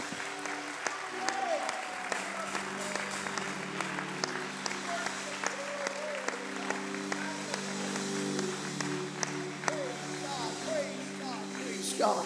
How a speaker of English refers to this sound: Praise God. If you're thankful for the word of God, why don't you put your Bible down and give God a hand clap of praise.